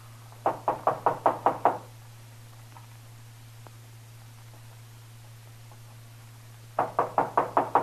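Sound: knocking on a door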